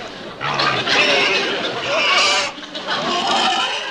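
pig grunting

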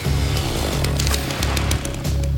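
chainsaw cutting a tree

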